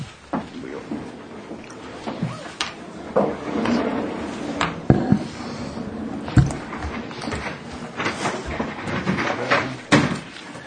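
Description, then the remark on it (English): A folding chair being unfolded and set up, with a series of irregular clunks, clicks and scraping knocks spread over several seconds, and faint murmuring voices in the background. “We have a chair being repaired, so you have to do a folding.”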